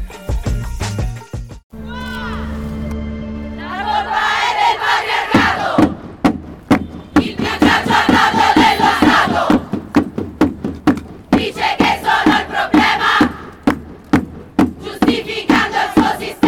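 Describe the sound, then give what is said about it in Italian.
A crowd of women and girls at a flash mob in Rome titled Un violador en tu camino chant together loudly in unison, a rhythmic group shout punctuated by sharp percussive beats or claps, after a brief sustained tone at the start. “Le voci che state sentendo sono di donne e ragazze durante un flash mob svoltosi a Roma, dal titolo Un violador en tu camino.”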